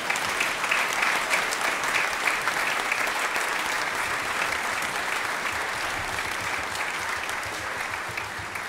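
A church audience claps steadily for about nine seconds at a first Advent service, a dense, even wash of many hands that stays loud throughout and fades only slightly toward the end, with no voices standing out.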